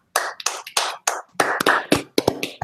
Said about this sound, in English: So guys, a round of applause on that one.